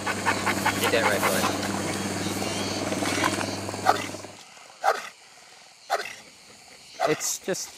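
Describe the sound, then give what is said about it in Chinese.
A military dog, Dusty, gives three loud, short howling cries in the later part, each separated by a brief pause, following several seconds of dense, busy background noise with a low hum. “达斯提性情温顺，平时不爱动，但你如果惹怒他，他就可能会朝你高声嚎叫。”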